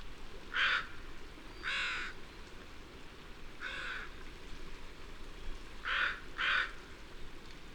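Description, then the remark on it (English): Harsh caws from crows on a bare bedrock cliff in open shrub habitat ring out in spaced bursts, five calls with a pair near the end, over a steady low rushing background like wind or water. No one speaks. “Because for the most part, these crows are on bare bedrock cliff.”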